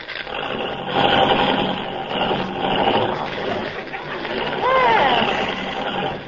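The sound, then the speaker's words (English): A car engine is started again and cranks and runs with a rough, continuous rumble and rattle that stays loud throughout, with a brief higher warbling sound rising and falling near the end. “You know, this car doesn't work very well. Start it again.”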